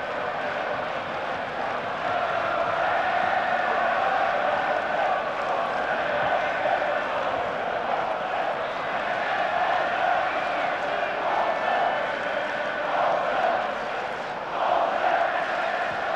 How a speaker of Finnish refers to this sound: Yleisö huutaa täällä tahdikkaasti Poulsen.